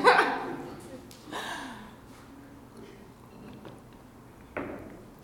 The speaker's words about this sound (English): All right, that's actually filled with scotch. I need another sip.